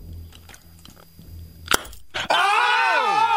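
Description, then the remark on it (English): A sharp crunch as the brittle glass of a light bulb is bitten through, a second crack a moment later, then a loud, drawn-out vocal outcry right afterward. “If I bite on it hard enough, you might see it light up. He's got light bulbs.”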